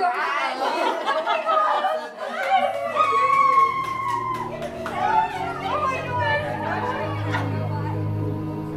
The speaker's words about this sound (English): Uh-oh. We've got an overflow crowd. I mean, people are having to stand up.